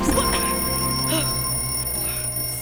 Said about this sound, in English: Sorry. I was trying to put some of your clothes away, and I knocked over your alarm clock.